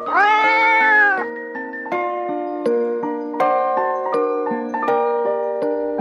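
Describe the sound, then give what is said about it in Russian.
A single loud, drawn-out cat meow rings out at the start, then gives way to a gentle instrumental melody of steady, stepping notes. No one speaks. “Ну, а младшему достался кот.”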